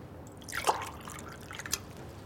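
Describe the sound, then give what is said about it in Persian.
Water being poured into a glass to offer someone a drink, heard as a few short, splashy liquid bursts, fairly quiet, with no one talking. “بیا یه آب بخور.”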